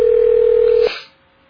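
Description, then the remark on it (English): A steady, loud telephone dial tone hums for nearly a second, then cuts off abruptly with a brief click-like burst that fades into quiet line noise, as a call is placed to reach someone at an aunt's home. “We'll try her also at my aunt's, which is where she's living now.”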